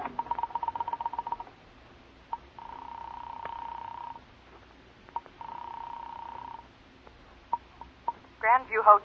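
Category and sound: household object, telephone being dialed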